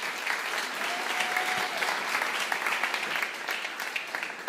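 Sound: audience applause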